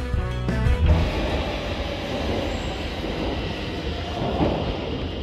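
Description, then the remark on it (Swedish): A Stockholm metro train at Zinkensdamm station roars along the tracks, entering a tunnel. A short whining motor tone opens the sound, then it settles into a steady, loud rumble with no voices. “Jag kommer alltså spela ett ljud och jag kommer vilja att du svarar på vilken station på Stockholms tunnelbana är detta.”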